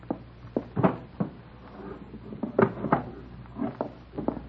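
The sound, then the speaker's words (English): The bottom drawer of a dresser is pulled open to get a gun, followed by a string of irregular wooden knocks, scrapes and rattles as things shift inside, fairly quiet and with no voices. “It's in the bottom drawer of the dresser. I'll get it.”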